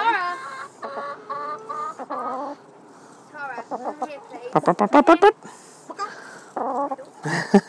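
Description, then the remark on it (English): A brown chicken being held by a person clucks in a run of short, loud, repeated clucks and squawks, with a burst of rapid clucking near the middle and some human voice mixed in. “I'm actually holding a brown chicken.”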